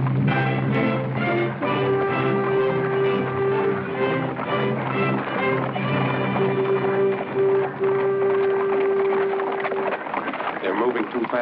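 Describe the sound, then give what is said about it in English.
Steady, rhythmic clip-clop of horses' hooves trotting, pulling the Count de Granville's coach, continuing throughout under a sustained droning tone and other busy background sounds. “Horses.”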